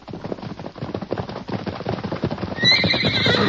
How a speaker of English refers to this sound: Why, it's Silver. Look at that horse run. The big fellow must have broken loose from whoever was holding him.